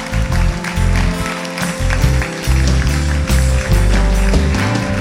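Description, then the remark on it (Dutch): An audience claps steadily for a few seconds, a dense wash of hand claps layered over loud music with a deep, shifting bass line. “Daar wil ik een applaus voor geven.”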